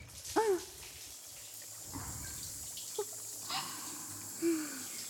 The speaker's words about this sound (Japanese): はい、プロデューサー、シャワーかけるよ。